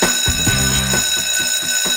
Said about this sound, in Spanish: Sonó el timbre, seguimos viajando por el conocimiento, como lo dijimos al principio